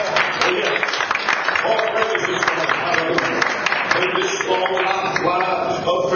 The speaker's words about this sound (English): Let's give him a good hand clap of praise to God.